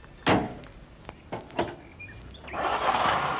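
A few sharp thuds, like a car door shutting, then a man at the wheel starts the engine of an old Citroën parked at the roadside. It catches and settles into a steady, fairly loud rumbling hum for the last second, with no talking.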